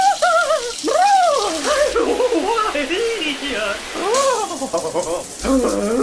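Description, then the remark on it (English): A steady hiss of running shower water fills the background while a high, warbling voice sings and whoops loudly over it in sweeping operatic falsetto phrases during a 6 a.m. morning shower. “Dreading that cold morning shower.”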